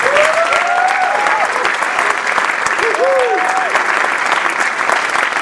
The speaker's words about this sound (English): On behalf of the 2,600 people we serve at Desert AIDS Project, thank you for joining us this evening as we mark World AIDS Day. Please join me in giving another round of applause for all of our everyday heroes.